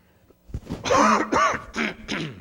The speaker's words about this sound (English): The coughs are free.